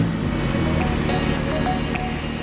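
A car engine rumbles steadily, a low continuous drone with road noise as the vehicle drives off, holding an even loudness throughout with no voices.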